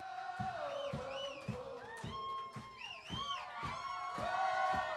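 A large crowd sings along loudly in unison, their voices rising and falling together over a steady beat of claps or stomps roughly twice a second.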